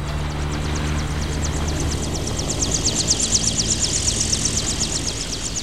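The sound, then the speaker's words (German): Helicopters drone steadily overhead as they circle an open clearing and descend to land, a deep continuous engine rumble layered with a rapid, rhythmic high-pitched chatter that grows slightly louder midway, with no voices. “Wie riesige schwarze Insekten umkreisten die Hubschrauber den Platz und sanken schließlich herab.”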